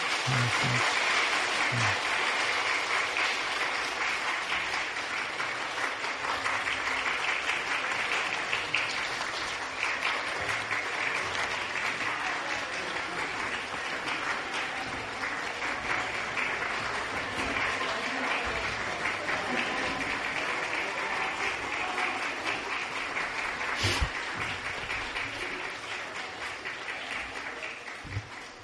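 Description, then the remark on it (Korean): An audience at Seodaemun Church applauds steadily for nearly half a minute in congratulation after a prayer, a dense wash of clapping from many hands with a faint voice or two underneath and a sharp knock near the end. “박수로.”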